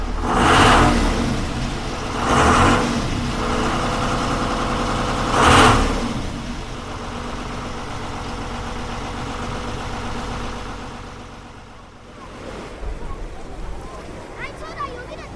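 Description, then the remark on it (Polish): A motorboat engine at a station in Giżycko, Poland, being checked for its technical condition at the start of a duty shift, idles steadily, opening up in three short, loud revs during the first six seconds before settling back to a steady rumbling idle. “Dyżur na stacji w Giżycku zaczynamy od tego, że przychodzimy i zaczynamy od sprawdzenia stanu technicznego naszych motorówek.”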